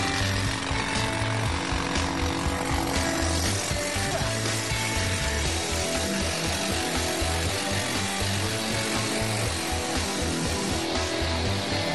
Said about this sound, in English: Water is fed into the hole to keep the dust down and cool the drill bit.